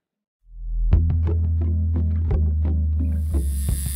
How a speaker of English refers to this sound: that is the sound of a modern-day tattoo machine. And that sound has changed over the last 7,000 years, of course, when the first evidence of tattoo art was found.